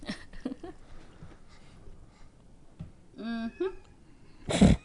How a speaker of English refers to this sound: I want your cat to get on the mic, too. It's making all that noise in the back. I think he's trying to get into the bathroom.